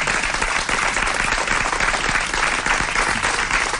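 A dense, steady burst of audience applause, many hands clapping at once in a continuous crackling wash that holds an even loudness throughout, with no voices standing out. The audience applauds a person who has just told their life story.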